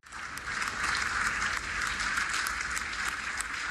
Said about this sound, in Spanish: Con un aplauso y de pie, los miembros de la Unión Europea reconocieron al presidente Volodymyr Zelensky por su férrea voluntad de defender su país y los valores democráticos frente a la invasión rusa.